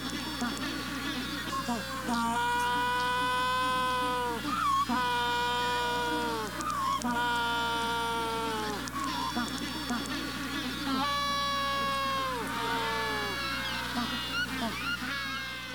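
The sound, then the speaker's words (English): A penguin colony calling at dawn on the beach at Punta Tumbo in southern Argentina, recorded outside the door of a trailer: many overlapping braying, wailing calls with harsh harmonic tones rise and fall continuously, loud and dense, over a steady low hum, with no voices speaking. “people do come and drive out to see the penguins”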